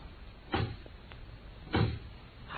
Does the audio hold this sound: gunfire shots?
no